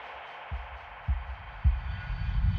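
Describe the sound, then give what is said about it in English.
A steady, muffled airplane engine drone fills the cabin, broken by three soft low thumps, with the deep rumble swelling slightly toward the end. No one speaks. “But once I'm back on the plane, the reality starts to set in.”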